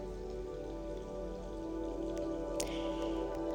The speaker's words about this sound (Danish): Regnvejret.